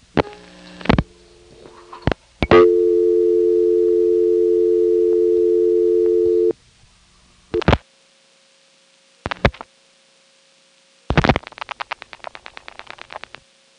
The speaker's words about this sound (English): See what I mean? It puts on the ticking tone, not as loud, but for the same amount of time as if it were calling you back. I think this says something about how that circuit works internally.